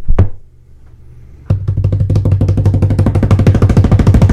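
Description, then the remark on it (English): A single sharp hit, a brief low hum, then a fast, steady improvised drum roll of rapid taps over a low droning tone, loud and chopping like helicopter blades, done by someone holding a microphone in one hand. No one speaks. “Kind of sound like a helicopter or something.”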